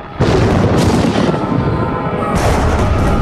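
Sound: thunder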